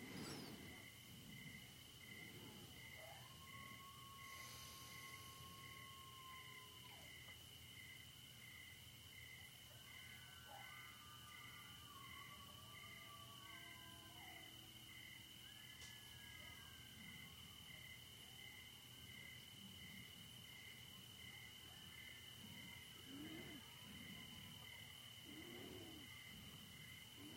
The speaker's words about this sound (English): Those coyotes howling. They say the ones who howl are the ones who are frustrated in their desires.